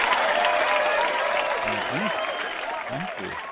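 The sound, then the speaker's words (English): A crowd applauds loudly as the show's host is introduced, in a steady, dense wash of clapping that fades slightly toward the end, with a few voices breaking through over it. “Wow, big crowd today.”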